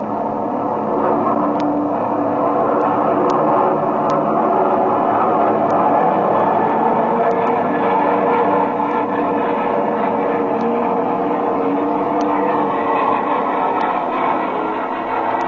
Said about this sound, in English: We're at 5,000 feet. That's high enough. I'll throttle back and level out.